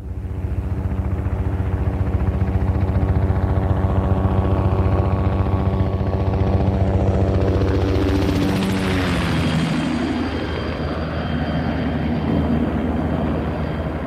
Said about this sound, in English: In the distance, I hear helicopters in the hills, dumping water buckets on flaming bush.